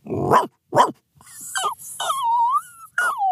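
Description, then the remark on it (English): A man imitates a dog: two short, sharp barks, followed by a string of high, sliding whines and whimpers, with no talking. “has some pretty awesome dog impressions in his toolkit.”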